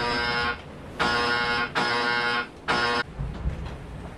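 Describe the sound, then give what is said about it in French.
A loud electronic foil load alarm on a sailboat buzzes in four harsh, evenly pitched bursts, each about half a second long, with brief gaps between them, signalling too much load on the boat and that the foil must be raised, followed by low rumbling background noise. “Et en fait, je n'ai pas pu rester parce que c'était l'alarme de tirant d'un trigger qui veut dire qu'il fallait remonter du foil parce qu'il y avait trop de charge sur le bateau.”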